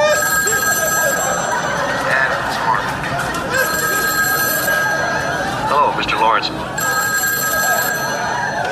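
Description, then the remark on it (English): A telephone rings in three steady, evenly spaced bursts, each a bright trilling bell lasting about two seconds, with a short burst of muffled voice sound between the last two rings. “No, that is every phone call.”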